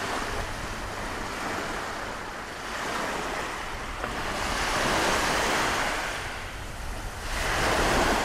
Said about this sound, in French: Son migrateur, ça me fait penser à la mer. J'entends la mer qui danse avec le vent comme une amoureuse. La mer qui danse avec le vent comme une amoureuse.